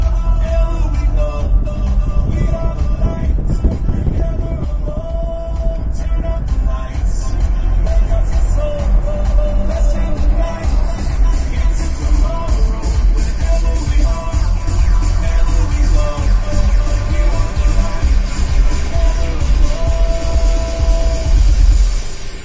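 Steady low road rumble of a car cruising at highway speed, continuous and fairly loud, with music playing inside the vehicle over the engine and tire noise.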